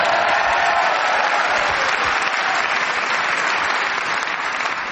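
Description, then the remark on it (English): A panel show audience applauds Paul Merton's turn, a dense wash of clapping that stays loud and even throughout with no pauses or voices breaking through. “I hope you were cheering Paul's talent of keeping going and not as he was saying.”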